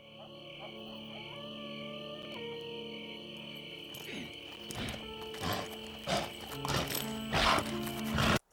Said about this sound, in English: I'm not familiar with the kind of crickets you'd have in such an environment. I haven't watched many Westerns, any Westerns. So I asked my girlfriend to help me out, and here are the crickets which she picked from my selection.